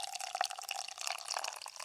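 Beer pours steadily into a glass, a continuous bright, fizzy splashing with small bubbly pops throughout, fairly quiet and without any voices.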